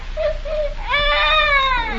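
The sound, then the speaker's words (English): A baby cries at the home of the local train dispatcher in River's End: a couple of soft, high whimpers, then one long, wavering wail that swells and trails off, with no talking over it. “Oh, my goodness, the baby.”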